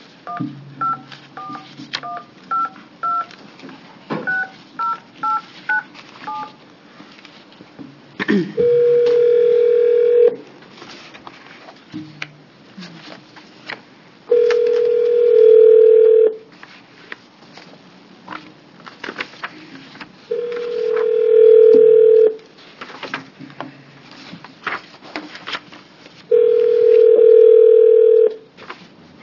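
A quick series of short touch-tone beeps as a number is dialed to call a witness in Bend who wants to testify to a committee, followed by four long ringback tones spaced evenly apart, heard clearly over a phone line with faint background noise.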